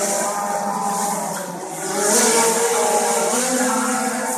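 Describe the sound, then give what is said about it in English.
A drone buzzes steadily in flight, a high whining motor hum with stacked harmonic tones that dip briefly, then rise and intensify as it speeds up, loud and continuous with no talking. “They sound like motorised mosquitoes.”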